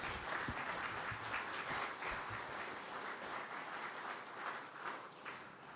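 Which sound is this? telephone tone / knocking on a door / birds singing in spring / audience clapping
audience clapping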